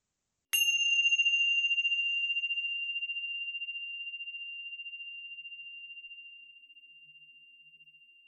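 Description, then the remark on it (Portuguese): A single bell is struck once to begin a meditation practice, giving a bright, clear tone that rings out and slowly fades over several seconds in an otherwise silent space. “Após o suar do sino, vamos dar início à nossa prática.”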